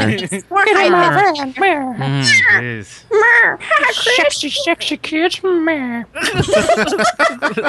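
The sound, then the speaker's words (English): A run of cat meows, several overlapping, rising-and-falling wails, fairly loud, one after another with barely a pause across the whole stretch. “Kitties.”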